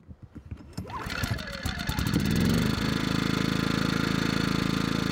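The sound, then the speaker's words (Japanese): A small soundproof-type petrol inverter generator weighing 22 kg is pull-started by its cord with a few sputtering cranks, then catches and settles into a steady, fairly quiet idle hum, rated at most 65 decibels, that runs evenly to the end. “あ、かかった。嬉しい。音も静かですね。 防音タイプですからね。”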